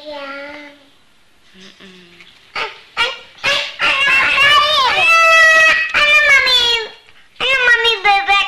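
rooster crowing

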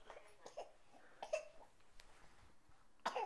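child coughing

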